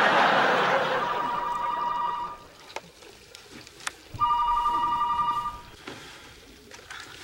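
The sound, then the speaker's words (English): A telephone rings in two distinct bursts of rapid electronic trilling, separated by a short pause, with faint background noise and a few soft clicks in between. “Charlie, there's a woman named Mia on the phone.”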